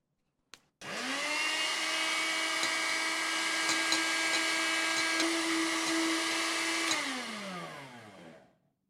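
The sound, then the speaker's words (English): A blender clicks on, quickly spins up to a loud, steady motorized whir for about six seconds as it mixes banana, milk and a teaspoon of sugar into a milkshake, then switches off and its pitch sinks as the motor winds down. “Then mix everything.”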